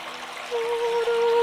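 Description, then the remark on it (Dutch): Water trickles and rushes steadily beside a boat in a continuous soft wash, joined about halfway through by a faint, steady low hum. No one speaks. “Vaart even mee al hier, op het water”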